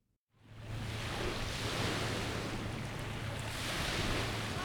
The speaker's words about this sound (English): The distant sound of crashing waves rings through the tree line of Refuge Cove State Recreation Area, north of town.